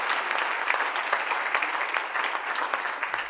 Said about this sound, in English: Thank you very much. Round of applause for the guests. Thank you very much.